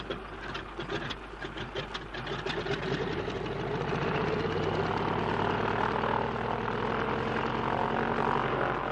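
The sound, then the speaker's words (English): Stone-cold aircraft engines rev up from a rough, stuttering idle into a loud, steady droning roar that holds strong for several seconds, with no voices over it. “And if only your engines don't seize, they're stone cold, Bertie. I can't help that old trout. Don't waste time revving.”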